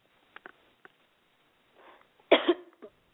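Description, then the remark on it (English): A single sharp cough from a tickling cough that has lasted several days bursts out after a few small clicks and a soft breathy rustle, followed by a brief throaty tail as it fades. “I'm sorry, I've got this tickling cough for the last few days, and it always comes at the most inconvenient of times.”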